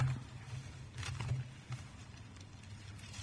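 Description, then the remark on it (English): Bible pages turning to Hebrews chapter 5 during a sermon, in soft, scattered papery rustles, with a few brief flurries over a steady low hum. No one speaks. “It's good to hear those Bible pages turning.”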